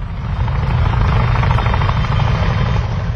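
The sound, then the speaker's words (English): A firefighting helicopter, used against wildfires in the Northwest, roars overhead, its rotor blades thudding in a rapid, steady rhythm over a loud engine whine, constant throughout with no voices. “Firefighters across the Northwest using helicopters and heavy equipment have spent the last 2.5 months battling a series of explosive wildfires.”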